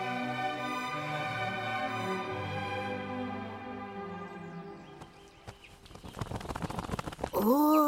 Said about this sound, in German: Liebe Krähe, was kommst du hier so düster angeflattert?